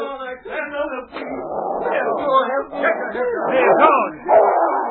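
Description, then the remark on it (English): A large dog named King snarls, growls and barks fiercely and almost without pause for several seconds, loud, with rough, throaty bursts, as it springs at a man on a mountain trail and hurls him to the ground. “The great dog sprang at Pete, hurling him to the ground.”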